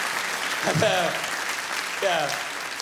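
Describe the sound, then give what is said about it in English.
An audience applauds in a steady, dense patter of clapping that holds throughout, with a couple of short vocal bursts, like cheers or shouts, rising above it. “Yeah, you can clap, but I know it's all just a trick Scotland is playing on the likes of me.”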